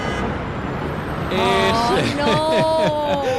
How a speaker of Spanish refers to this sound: Es el verdadero Cairo. Fíjate, es una de las ciudades con más atascos, con más tráfico, es muy caótica y este sonido nos llega del barrio copto.